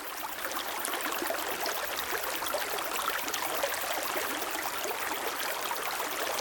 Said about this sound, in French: N'hésitez pas, montez sur le talus, la rivière coule en contrebas. C'est l'Uvonne.